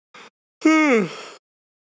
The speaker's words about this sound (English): As he yawns.